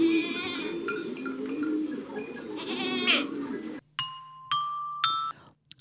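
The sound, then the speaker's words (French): A goat bleats in a long, wavering cry for several seconds, followed by three bright electronic chime tones in quick succession, each ringing briefly before fading. “T'y es retourné la chèvre, attention, punition.”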